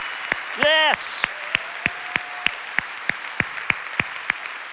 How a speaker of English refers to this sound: Thank you, Lord. Thank you, Jesus. So that hand clap was for Jesus.